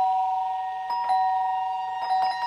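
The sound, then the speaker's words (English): An electronic doorbell at a front door rings with a steady, sustained chime tone, punctuated by two brighter strikes partway through, clear with no voices. “The doorbell.”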